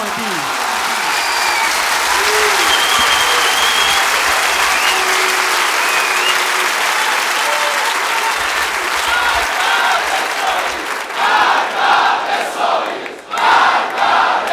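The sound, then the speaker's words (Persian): A large crowd at a religious gathering (heyat) claps loudly and steadily while many voices chant together over the applause; toward the end the cheering breaks into rhythmic, pulsing bursts. “خوبه، خوبه هیئتی که از تریبونش این صدا، از جمعیتش این صدا بیرون نیاد، امروز هیئت نیست.”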